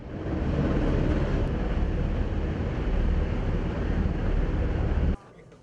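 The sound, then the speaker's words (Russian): A loud, steady helicopter roar, a dense continuous engine-and-rotor drone, as the helicopter carries a suspended cage of sedated bears to safety during a flood. It stays constant for about five seconds before cutting off abruptly. “Медведям сначала ввели успокоительное, после чего транспортировали клетку в безопасное место, прицепив ее к вертолету.”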